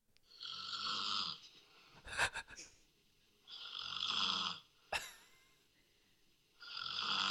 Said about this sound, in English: Yeah, okay, so this is the girlfriend snoring.